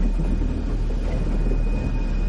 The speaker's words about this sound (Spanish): Un tren pasa bajo el puente.